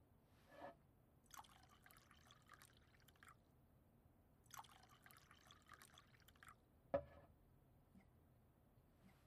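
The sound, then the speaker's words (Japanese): Alcohol is poured into a glass to go with curry udon, in two quiet bursts of trickling liquid, followed by a single sharp clink of glass, with no talking. “そしてカレーうどんにもちろんお酒も添えて、この組み合わせならいけるって思うんだ。”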